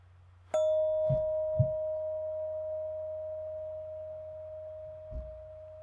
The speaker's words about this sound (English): Did you hear how long the bell actually rang? It's kind of a long time.